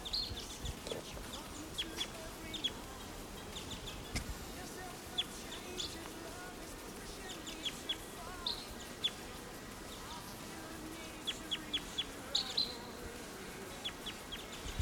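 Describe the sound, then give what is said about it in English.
A wild bird calls from right above the camp in short, sharp, high-pitched chirps, repeating irregularly and sometimes in quick pairs, over a constant low murmuring background hum. “Here's a wild bird right above the camp.”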